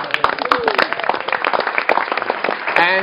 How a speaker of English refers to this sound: A round of applause.